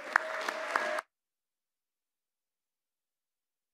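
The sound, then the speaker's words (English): An audience at Pacific Baptist church applauds in welcome for a guest speaker coming up, about a second of dense claps with a few sharper hits, then it cuts off abruptly into silence. “I think we should give him a warm Pacific Baptist welcome.”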